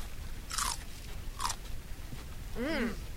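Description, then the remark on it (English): Two sharp, crisp crunches of someone biting into trace-irrigation-grown celery served as crudités at a greenhouse in China, each a bright snap, followed by a short burst of wet chewing with a faint voiced murmur. “Pick one and see. A little trace irrigation grown celery.”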